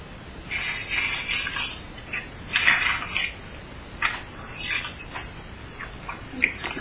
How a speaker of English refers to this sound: Yeah, I can hear that wonderful sound of the pages turning. Anytime I'm speaking in a conference and I hear those Bible pages turning, I know I'm with some serious people.